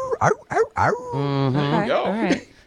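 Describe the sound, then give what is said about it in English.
A beagle lets out a few short yelps, then breaks into a long, wavering howl that rises and falls, loud, with no talking over it. “Number 8 is a beagle.”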